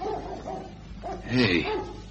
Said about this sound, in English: Hey, you hear that? Dog somewhere. I've been hearing it all morning. A dog? A hound?